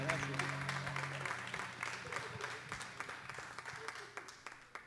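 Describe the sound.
An audience applauds with steady, dense clapping that slowly thins out, while voices murmur and call out faintly underneath at the start.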